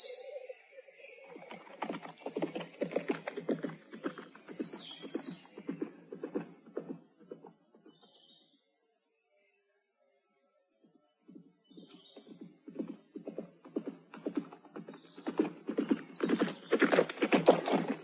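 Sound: horses trotting and neighing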